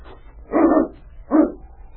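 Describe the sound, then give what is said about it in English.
A dog, King, barks twice as people approach the door, two fairly loud, slightly muffled woofs spaced about a second apart over a low steady background hum, with no voices. “Why, he was barking before they even got to the door.”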